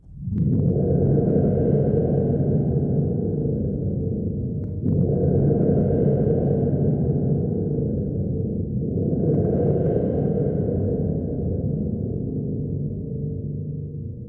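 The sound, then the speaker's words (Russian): A spring thunder drum, a cylinder-shaped instrument with a long metal cord extending from one side, imitates a thunderstorm in three long, loud rolls, each starting with a sharp onset and sustaining a deep, booming roar like rolling thunder, with no voices. “Слушай, как барабан-гром изображает грозу.”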